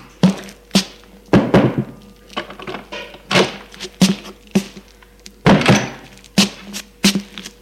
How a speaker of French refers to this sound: Et monte à la chambre. Frappe à la porte et entre.